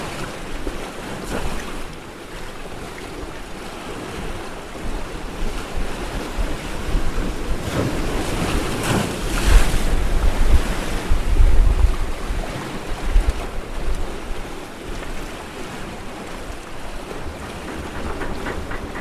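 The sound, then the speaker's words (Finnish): Steady wind roars over choppy sea waves and keeps strengthening, the gusts swelling louder in the middle with buffeting rumble against the microphone, then settling back to a constant blustery wash. “Tuuli vaan yltyy.”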